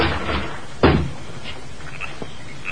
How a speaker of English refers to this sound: I'll kick open the door.